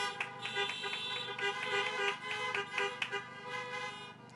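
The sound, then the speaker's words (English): A car horn honks repeatedly in quick, rhythmic bursts over a sustained blaring tone, loud, continuing steadily for several seconds; a class officer honks from a parked car at a December 2020 graduation ceremony. “Let's hear her honk in that car.”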